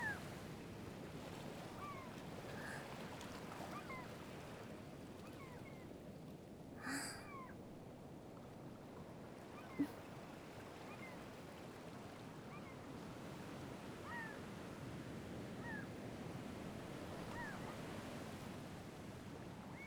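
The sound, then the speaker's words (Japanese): Steady wash of ocean surf rolling onto a shore, continuous and fairly loud, with faint bird cries scattered through it and a couple of brief knocks. “妹たちもそうみたいなの。みんな波音が好きって言ってるし。”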